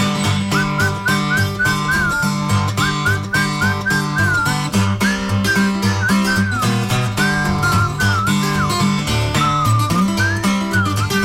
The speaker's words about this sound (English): I said, that's a horse. You ain't calling right. You must whistle when you want your horse to come to you.